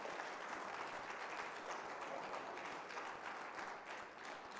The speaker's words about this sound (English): Can you give God a big hand clap of praise this morning?